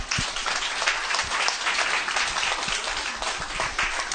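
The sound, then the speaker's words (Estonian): A crowd applauds the panel participants steadily, many hands clapping in a dense, continuous patter at an even, fairly loud level with no talking over it. “Me võime teha aplausi neile.”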